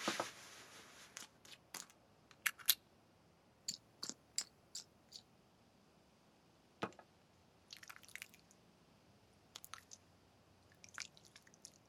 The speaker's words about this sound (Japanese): 肩たたきはここまでにして、肩全体にオイルを塗っていきましょう。